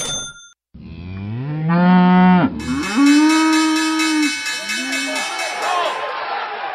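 Loud cattle mooing: a long drawn-out moo followed by a second sustained moo and a shorter lowing call, with no talking.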